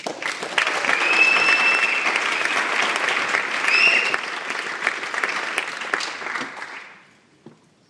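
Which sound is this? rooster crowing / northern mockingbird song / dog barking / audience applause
audience applause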